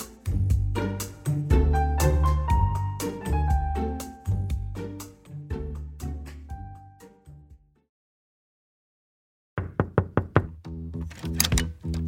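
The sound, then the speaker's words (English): A tuneful musical passage fades to silence, then a series of firm knocks on a door sounds in quick rhythmic succession, loud and clear with no talking. “Right now, people around Britain are answering a knock at the door and being asked some intimate questions.”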